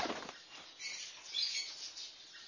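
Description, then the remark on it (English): A bird's wings flap in a quick flurry, then settle into a soft, rapid fluttering that carries on for a couple of seconds, fairly quiet, with no one talking. “Is that your bird?”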